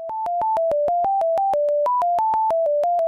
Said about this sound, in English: mapped it onto the notes of the C scale, C major scale, and then you just play each note according to what each part of the data maps to